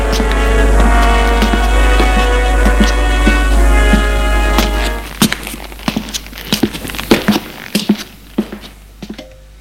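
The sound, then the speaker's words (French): A steady low hum fades out midway, then a maid knocks on a door, a series of sharp knocks, hard and uneven in rhythm, with no voices present. “On a frappé à la porte.”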